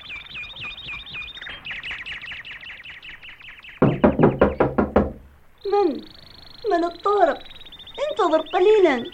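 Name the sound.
knocking on a door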